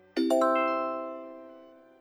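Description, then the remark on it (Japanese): A two-note electronic chime, ding-dong, rings once clear, signalling learners to answer in a dialect language practice exercise, its tones sustaining and slowly fading over about two seconds with no voices. “食べないよ、読まないよ、など標準語で回答の内容を指示しますので、のチャイムの後に、指示した標準語と対応するうくむにの単語を使って回答しましょう。”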